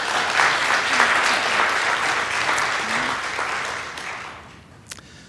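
An audience in the EFS church applauds the Pentecostal church (Pingstkyrkan): dense, crackling applause holds for about four seconds, then thins out and fades, ending with a few scattered claps.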